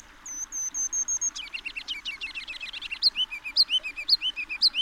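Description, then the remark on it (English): A kinglet sings alone in spring at dawn, in the trees along a creek across the street from a downtown park: a few thin, very high notes, then a fast run of twittering chatter, ending in loud, bouncy repeated phrases that rise and fall. “A kinglet's rambling silly song?”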